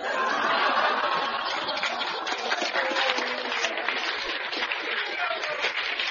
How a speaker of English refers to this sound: Listen to the phonies applauding here.